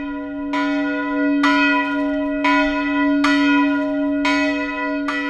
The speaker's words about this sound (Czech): Velký zvon, jehož hlas se nese krajem kolem Omleničky, ulil roku 1590 neznámý mistr. Zvon má hlavní tón H1, průměr 84 cm a váží přibližně 400 kg.